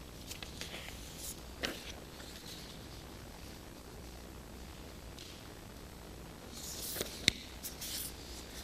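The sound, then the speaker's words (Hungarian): Soft, intermittent rustling of papers being shuffled and mixed up, with scattered crinkly bursts and a denser flurry of handling near the end, quiet with no talking. “Összekavarodtak a papírjaim, te jóságos ég.”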